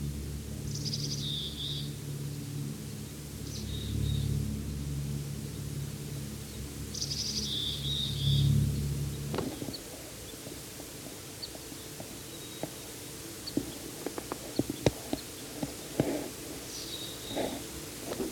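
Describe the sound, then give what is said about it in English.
A bird gives short, high chirping calls in a few spaced bursts, with another bird across the road and up the hill answering over a low rumbling hum that fades halfway through. No one speaks. “Another one across the road and up the hill a ways that's answering.”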